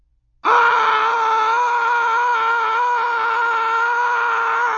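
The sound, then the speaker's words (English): After a brief silence, a single voice lets out a loud, sustained scream that holds steady for about four seconds, mimicking the roar of 60,000 screaming fans. “Why not a moment of screaming?”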